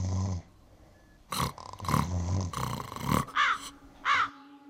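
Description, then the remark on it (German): Harsh, raspy cawing from crows, several loud calls in an uneven series, clear, with no talking over them. “Rabenvögel und ihre Feinde.”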